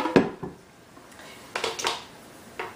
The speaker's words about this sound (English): It's just easier for everything to blend into the blender here. I'm gonna grab my jug here.